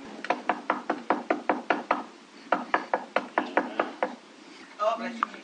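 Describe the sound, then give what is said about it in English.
Rapid, loud knocking on a wooden door in two quick bursts, about eight raps, a short pause, then several more, followed by a brief voice at the end. “No, stop knocking on my door.”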